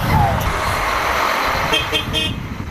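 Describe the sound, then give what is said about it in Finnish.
Large buses ready to depart idle in Istanbul, Turkey, on a Thursday with a steady low rumble, joined by a short horn toot and murmuring voices as dozens of people say goodbye; the buses are taking Syrian refugees back toward the Syrian border. “Bussit hurisivat lähtövalmiina torstaina Istanbulissa, kun kymmenet ihmiset hyvästelivät toisensa.”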